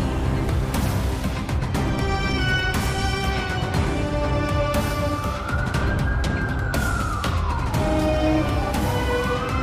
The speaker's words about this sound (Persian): صدای پلیس توجهش رو جلب میکنه. ماشین پلیس پشت سر کامیونه.